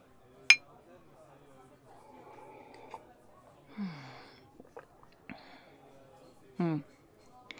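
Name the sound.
glasses clinking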